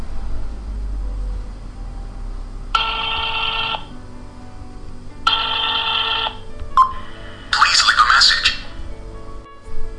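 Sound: telephone ringing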